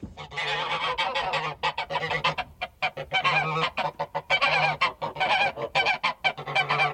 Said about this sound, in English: Yes, geese.